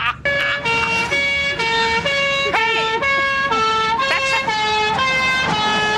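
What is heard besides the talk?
french police car siren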